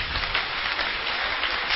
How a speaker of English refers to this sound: Can we clap our hands for our God?